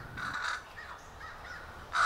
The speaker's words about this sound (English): Someone else of this black-feathered tribe has spotted a snake. Up goes caw, caw.